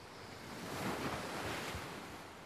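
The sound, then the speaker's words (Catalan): Small, gentle sea waves wash softly and steadily at a beach on a calm sea with a light, gentle breeze, a continuous quiet surf swelling slightly in the middle; no voices. “El vent bufa suau i el mar està en calma. Ara hi ha onades petites.”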